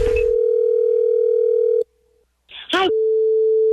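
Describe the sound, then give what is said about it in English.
A loud, steady telephone dial tone hums for nearly two seconds, drops out briefly, then a short warbling electronic burst sounds before a steady line tone returns and holds, as a phone call is placed. “So I'm calling to tell her, as the manager of her store, that the mall has a spider infestation.”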